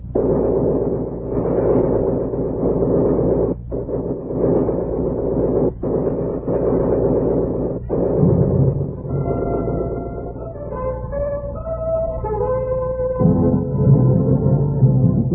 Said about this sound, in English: Special Agent Paul Delmonico and his faithful sidekick, Apprentice Special Agent Andy Chesney, tied to a tree, choking on poison gas, being fired at by a machine gunner, facing the extra deadly hazard of broken glass.